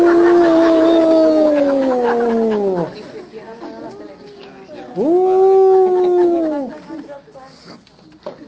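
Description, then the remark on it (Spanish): Coyotes howl in two long, wavering calls, each rising then slowly sliding downward, separated by a short pause with faint background noise between them. “Coyotes aullando.”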